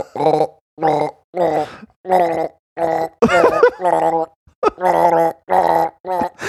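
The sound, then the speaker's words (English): A voice imitates a child throwing up on himself in the back of a car, with a string of about ten short, throaty retching bursts and groans, separated by brief pauses and growing harsher toward the middle. “nah, he's just throwing up on himself”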